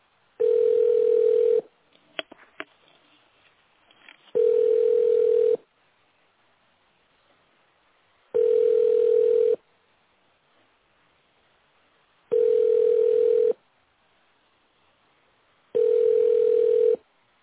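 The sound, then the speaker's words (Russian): A telephone ringback tone of steady, mid-pitched beeps, about a second long, sounds five times at regular intervals, with quiet gaps and a few faint clicks in between, as the call goes unanswered. “Продолжаем дозваниваться. Оставайтесь на линии.”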